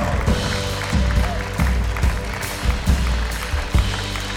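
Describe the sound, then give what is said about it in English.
An audience claps hands in a loud, sustained burst of praise to Jesus, the dense clapping carried over a steady, rhythmic low bass pulse from music, with no clear speech. “Come on, if you believe it, give Jesus a hand clap of praise in this house.”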